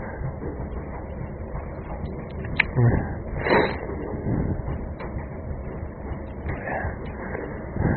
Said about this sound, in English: on the train to work right now. Just as well there's no one in the carriage, otherwise, well, I wouldn't be doing this, I assure you.